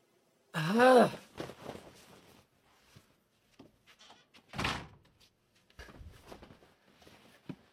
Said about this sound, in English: Hey, close the door!